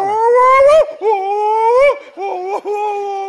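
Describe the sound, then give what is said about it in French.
A person howls like a wolf, talking to the wolf, in three long, loud vocal calls, each held steady and sliding upward before breaking off, with brief pauses between them. “Je y parle au loup.”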